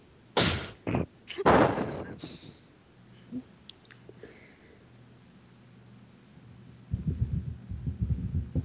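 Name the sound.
typing on a keyboard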